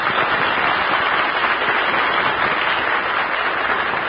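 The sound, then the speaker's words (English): The home-base audience of the Breakfast in Hollywood broadcast cheers and claps in a dense, steady roar of many voices and hands that holds at an even, loud level for about four seconds, with no one speaking over it. “Let's send them a cheer from the home base.”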